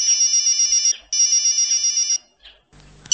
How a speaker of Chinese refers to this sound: 周鑫正要离开医院回家睡觉，刘律师的电话又打了进来。